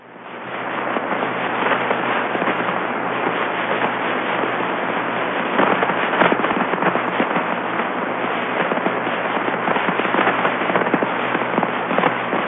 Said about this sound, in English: And these are things called S bursts. This comes from Dick Flagg at the University of Florida, this recording. This is low frequency radio emission. And it's coming from the magnetic poles of Jupiter.